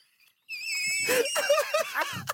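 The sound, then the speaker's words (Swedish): A voice imitates constant ear ringing with a sustained, high-pitched whine that holds steady for about two seconds, roughened partway through by strained, wheezy vocal noise underneath. “Precis, det är bara ett konstant tjut.”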